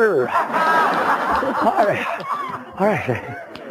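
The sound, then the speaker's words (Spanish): A person imitates a dog barking with a quick run of loud, yelping vocal barks, some breaking toward a snicker or chuckle. “El albañil queriendo que se había ido el mariquita con el perro, estaba poniendo unos ladrillos y hasta así el perro.”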